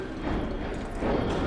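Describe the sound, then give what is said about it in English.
Horse hooves clip-clop in a steady rhythm along a street in Boston's North End, a crowded waterfront area of commercial and residential blocks, set in a dense, continuous wash of busy street noise. “Laborers, residents, commuters, horses, they're all just going about their business.”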